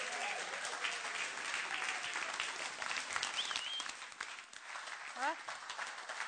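An audience claps steadily for about six seconds to welcome a pastor, a dense wash of applause with a short whistle and a rising whoop breaking through near the middle and end.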